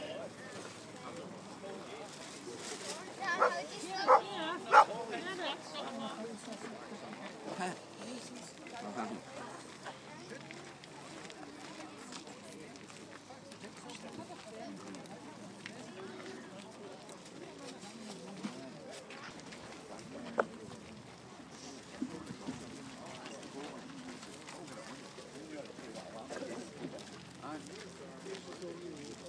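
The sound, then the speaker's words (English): Outdoor car boot sale ambience: a steady bed of crowd chatter and murmuring voices with wind noise and a dog barking, punctuated by a few sharp louder knocks or calls early on. “Some sounds of the car boot.”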